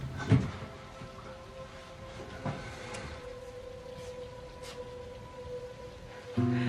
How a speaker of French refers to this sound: Et dehors, on entend la pluie.